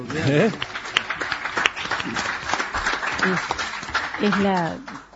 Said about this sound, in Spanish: Los aplausos.